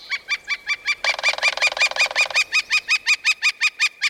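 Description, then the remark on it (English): A young fledgling flicker calls in a fast, steady series of sharp, ringing notes, about five per second, fairly loud, with a rougher, buzzier overlapping call in the middle stretch. No one speaks. “The best thing you can do for the young flicker, and other fledgling birds too, is to give the bird some space.”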